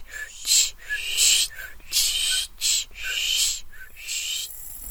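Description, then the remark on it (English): A voice imitates scissors cutting, making a quick series of about seven sharp, hissing 'shk' bursts in an uneven rhythm, fairly loud, with no other sounds around it. “I can do a fairly good vocal impersonation of scissors cutting.”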